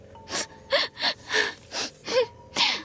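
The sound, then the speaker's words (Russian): A voice imitates a girl crying: a steady series of about seven breathy, gasping sobs, fairly loud, with short pauses between them and no talking. “Влезла она на березку, плачет.”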